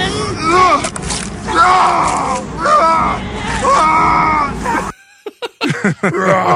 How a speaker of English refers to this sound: Here's awesome bad death sounds. It's during the vampire attack, and I thought these were great and comical.